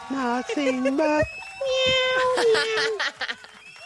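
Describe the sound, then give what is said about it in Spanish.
A human voice imitates a cat, giving a few drawn-out, wavering meows in a high, nasal tone, fairly loud, with one long sustained cry near the end. “Miau, miau, miau, miau. Ese es mi gallo.”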